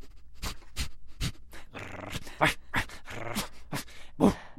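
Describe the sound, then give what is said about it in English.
A man's voice imitates a dog, playing the family dog Porthos in the musical Finding Neverland at the American Repertory Theater, producing a rapid series of short growls, yips and panting bursts, fairly loud, with no talking. “he's fully embraced the role from his growls to his canine gait.”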